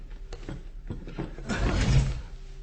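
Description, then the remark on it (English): A mechanical door mechanism clicks and clatters, then grinds and whirs as it slides open, building to a louder rumbling swell before settling. Fairly loud, with no voices. “Open the door.”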